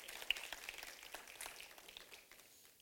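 A soft, scattered golf clap from a small group in a church, many quick light claps overlapping, quiet throughout and tapering off toward the end, with no one speaking.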